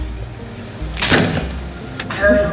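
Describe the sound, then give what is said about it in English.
The door of a sleeping pod (an energy pod) slides open with a brief whooshing rush over a low steady hum, followed by a faint thud and a soft high tone. “Look, in my defence, she didn't have a do not disturb sign on the door.”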